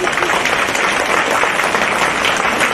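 An audience breaks into steady applause, many hands clapping at once in a dense, even wash of sound that holds at a constant loud level for the whole stretch.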